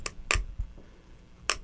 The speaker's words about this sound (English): Here you go. You want the other one? can bang with a spoon.